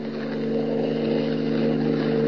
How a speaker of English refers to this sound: Planting himself in the middle of the only road leading from the Sudbury airport, Superman waits for Hans Holbein's car to come along. His keen hearing detects an approaching motor, and he stands at rigid attention, every rippling muscle tense.